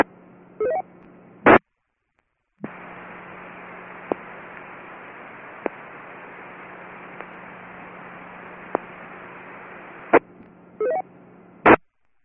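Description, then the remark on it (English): An amateur radio station keys up the Spark Repeater during a net check-in with no audio: about nine seconds of steady static hiss and low hum with faint periodic ticks, framed by short beeping tones and sharp squelch clicks. “And then there's a station out there with no audio. You are hitting the repeater, but you have no audio.”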